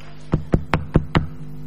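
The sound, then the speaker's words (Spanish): Five quick, evenly spaced knocks on a door, fairly loud, rapping in a steady rhythm with no voices. “Golpea la puerta.”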